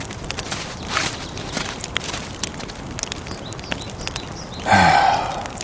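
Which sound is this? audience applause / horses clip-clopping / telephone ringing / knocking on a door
horses clip-clopping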